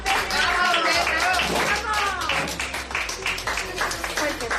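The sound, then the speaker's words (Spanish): Doctors, nursing auxiliaries and nurses at Gregorio Marañón Hospital in Madrid applaud steadily with dense, rapid clapping that stays loud throughout, while voices call out and cheer over it, as a 77-year-old coronavirus patient leaves the ICU after 144 days. “Es el aplauso de médicos, de auxiliares, de enfermeras.”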